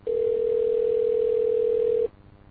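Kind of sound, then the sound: signal or alarm, telephone dial tone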